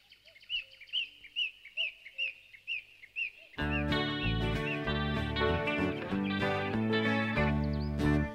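A steady series of bright, repeated bird chirps opens alone, then after a few seconds a full, loud musical intro kicks in, with chirps still faintly audible above the instruments.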